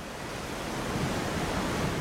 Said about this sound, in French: Et le vent. Là, c'est le raco qui souffle. Quand il s'arrête vers 19h, on sent une odeur caractéristique.